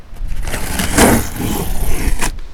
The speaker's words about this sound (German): Hier ist der Karton. Der ist gar nicht so groß. Einmal umdrehen.